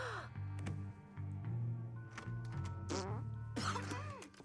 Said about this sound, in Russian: У нас уже весь дом снизу доверху ее пукишами провонял.